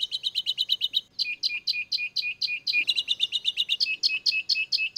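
finch song

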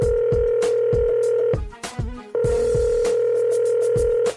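telephone dialing tones

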